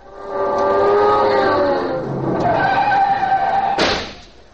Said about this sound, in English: No, we got the car. Come on, we'll ride.